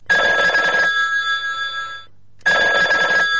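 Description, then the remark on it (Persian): A telephone rings loudly in two bursts, a long ring followed by a pause and then a second ring, with a bright, steady electronic tone and no talking. “بی خدا، باز کی از دهی دونیم به جشو که زنگ زده؟”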